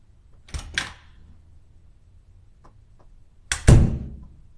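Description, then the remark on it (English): A door opening as a man arrives: a pair of sharp latch clacks, a pause with a couple of faint clicks, then a louder double thunk as it swings and bumps. No one speaks. “I hear him now. He's coming to the door.”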